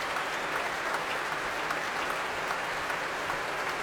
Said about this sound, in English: They're desperate for an encore. Zachary Oromo coming back on stage to take the applause again, to bring the orchestra to their feet once more. This orchestra that he says is so healthy, that's so very well loved in its hometown of Stockholm.